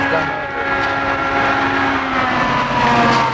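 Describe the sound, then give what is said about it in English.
A car rolls past on the road, a loud, steady engine drone with a humming tone that holds for a few seconds without fading. “The cars are coming on the road, we should go on the walk.”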